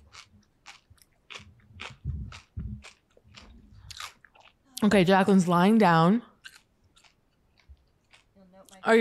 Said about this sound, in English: I need to take four bites so I don't completely die on air. Okay. Hold on. Obviously, we'll cut the crunching, the chewing. It's awful.